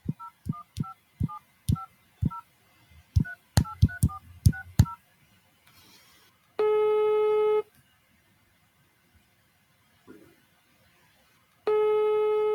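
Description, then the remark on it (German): A quick run of touch-tone dialing beeps in two bursts as a phone call is placed to Hand on Demand, followed by two long, steady ringback tones separated by a pause of near silence. “Ich ruf mal hier an, mal gucken, ob er rangeht.”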